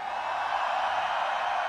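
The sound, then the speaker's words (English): A huge festival crowd at Tomorrowland screams together on a count of three in a dense, sustained roar that fills the whole moment, steady and loud with no break and no single voice standing out. “I want to hear everybody scream, Tomorrowland, you ready?”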